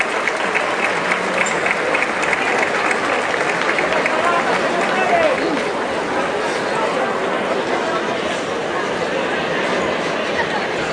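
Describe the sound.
Sustained applause from a large audience fills the whole stretch, a dense, steady wash of clapping at even loudness with a faint murmur of voices mixed in.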